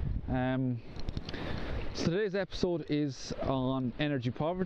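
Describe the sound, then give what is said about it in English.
Atlantic ocean waves in Kerry make a steady, hissing wash that runs underneath a person talking throughout, the surf noise fairly loud and continuous rather than breaking in distinct crashes. “You can hear the Kerry waves in the background, the Atlantic waves, I should say.”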